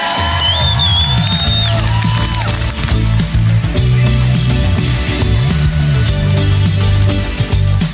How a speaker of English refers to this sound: I think we ought to give this like a 100-yard touchdown scream. Yeah!